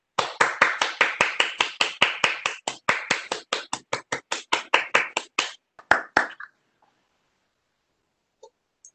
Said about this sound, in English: And I'd like to just give a round of applause from the commission to all of those who have received an honorable mention.